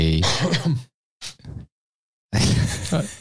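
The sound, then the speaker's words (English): A person clears their throat twice, with a rough, gravelly rasp, then a brief breathy sound and a short pause before another harsh clearing follows. “No, he's laughing at me because I had to clear my throat.”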